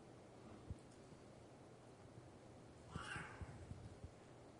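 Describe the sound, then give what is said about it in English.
A cat lets out one drawn-out, yowling meow partway through, fairly quiet against a hissy background, with a few soft thumps and rustles scattered before and after. “And the cat wins.”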